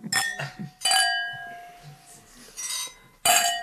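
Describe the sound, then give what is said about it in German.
Wine glasses clink together about four times in a toast, each bright strike ringing out with a sustained glassy tone, fairly loud, with faint murmuring voices in the gaps. “Das ist mal so ein Fernprost, ne? Teleprost.”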